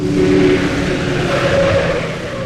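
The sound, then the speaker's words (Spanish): A car engine hums steadily as the vehicle is driven, a loud, continuous rumble with a low droning tone and road noise, and no voices. “el gigante japonés, conduce el auto.”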